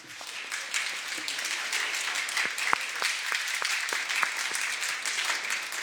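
A crowd in the California State Senate applauds steadily for several seconds for a guest of Senator Galgiani, a dense wash of many hands clapping at an even level, with a few sharper individual claps standing out. No one speaks.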